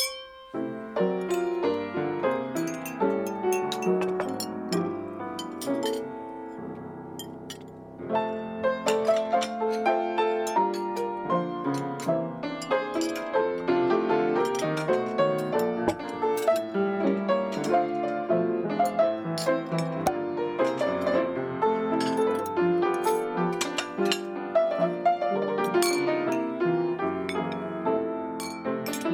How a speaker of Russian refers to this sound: Ну, и еще а музыкой, наверное, было все-таки звяканье приборов и посуды. Да, это была основная музыка. Звон бокалов.